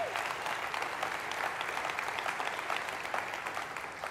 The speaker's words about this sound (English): And we love them. Amen. Come on, give them a round of applause for Pastor Aaron.